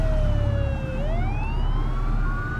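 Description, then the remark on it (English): A police siren wails with a smooth rising and falling pitch, loud and steady over low rumbling road noise, as though heard from inside a moving car while the siren draws closer. “Oh, cops coming!”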